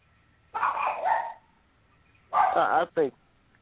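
A dog being played with by its owner gives a drawn-out playful bark-growl, then after a pause two quicker barks in a row, fairly loud with nothing else around them.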